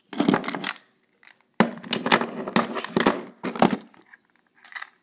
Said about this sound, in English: Oh my goodness, that grimy bucket will be perfect, he said, dropping all of his coins in.